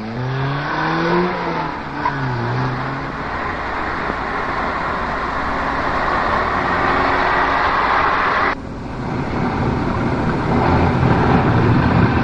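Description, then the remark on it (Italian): A new car drives along a rough road with potholes, its engine revving up at first, then a loud, steady rumble of tyres and road noise continuing without pause; no one speaks. “Sai, quella è una macchina nuova, allora.”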